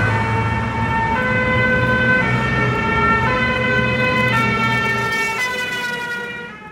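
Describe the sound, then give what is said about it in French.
Loud two-tone emergency sirens of security vehicles alternate in a steady hi-lo pattern over a rumble of vehicle engines as the new French Minister of Defence arrives for an official visit to the construction site of the French Pentagon. The sirens hold strong, then fade slightly at the end. “Voilà, c'est avec grand renfort de sirènes et de véhicules de sécurité que le nouveau ministre de la Défense vient pour cette visite officielle du grand chantier de ce qu'on appelle le Balargone, le Pentagone à la française,”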